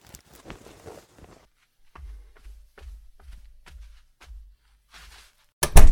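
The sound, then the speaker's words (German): A brief rustle, then a steady run of heavy footsteps walking away, ending in a loud, sharp door slam as someone slams the door behind him and leaves the house. “Georg knallt die Tür hinter sich zu und verlässt das Haus.”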